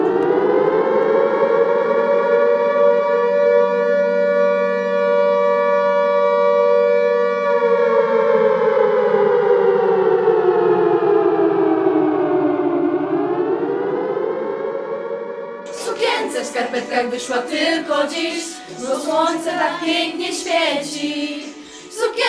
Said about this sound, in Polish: Godzina W. Tym kryptonimem określano dzień i godzinę rozpoczęcia w Warszawie akcji Burza. Godzina rozpoczęcia to 17. 1 sierpnia o tej porze w całym kraju zawyją syreny.